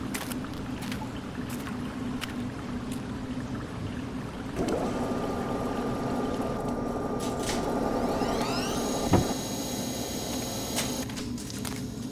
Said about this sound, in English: Generator? What do you use for fuel? You just walked under it. We use the falls to turn a water wheel that powers the generator.